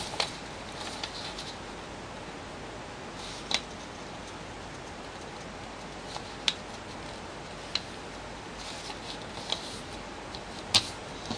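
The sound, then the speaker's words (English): Paper is folded quietly, in half with the color side up in both directions, to make a simple paper butterfly: a soft, steady rustle broken by a handful of sharp little creasing clicks at irregular intervals, with no voices. “We're going to first fold the model in half with the color side up in both directions.”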